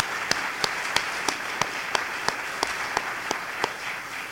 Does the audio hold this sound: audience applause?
yes